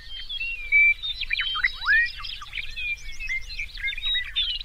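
A dense chorus of meadowlarks and bobolinks in the summer grasslands of southern Saskatchewan, with clear whistled phrases and bubbling, tumbling notes overlapping continuously over a low wind-like rumble.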